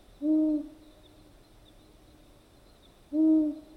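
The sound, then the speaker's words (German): Two deep, hollow hoots of a long-eared owl, each a single low moaning note, spaced about three seconds apart with near silence between, clear. “Die Waldohreule besitzt eine der unheimlichsten Stimmen unter den Vögeln.”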